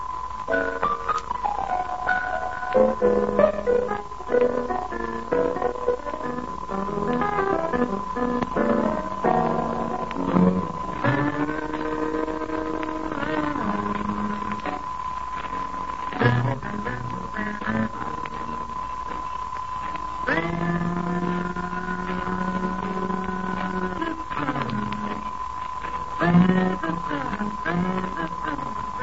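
An old, muffled jazz record with trumpet and alto saxophone trading quick melodic runs and held notes over a rhythm section, and a steady thin whine running underneath throughout.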